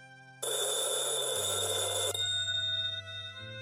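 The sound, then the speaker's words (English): An old rotary wall telephone's bell rings loudly in one harsh, rattling burst, then its tone lingers and fades against a low steady hum. No one speaks. “The phone rings. That old rotary phone on the wall, silent for weeks, buzzing softly at most, suddenly shrieks like it's never done before.”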